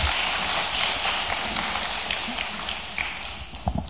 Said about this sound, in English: Thank you. Thank you. Give them a clap. 好，我们给他们一个掌声。